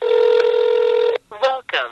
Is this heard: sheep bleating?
no